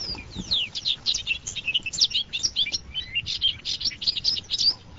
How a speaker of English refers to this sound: So old hay and alfalfa fields are being slowly converted to prairie. For now, the green vegetation will be carefully harvested, but bird species like bobolink already sing there.